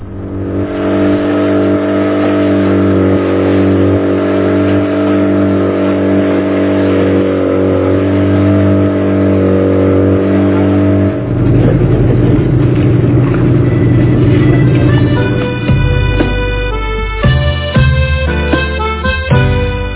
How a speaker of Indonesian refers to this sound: Untuk mempercepat perjalanan, kami pun menyewa sebuah pompong, kapal kecil dari kayu dengan mesin tempel.